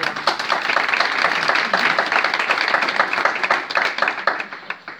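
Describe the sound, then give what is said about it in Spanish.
An audience at an exhibition on the Fuerte de San Cristóbal applauds steadily as an association member is introduced to speak, a dense patter of many hands clapping at once that holds for several seconds before thinning out toward the end. “Luego igual tenéis que retirar los aplausos si lo hago mal.”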